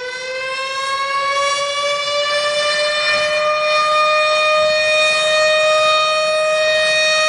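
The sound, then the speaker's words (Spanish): A loud tornado warning siren, sounded to warn the population of an approaching tornado, wails steadily, its tone slowly rising in pitch as it holds one continuous, unbroken blare with no one speaking. “Aquesta és la sirena que sona per avisar la població de l'arribada d'un tornado.”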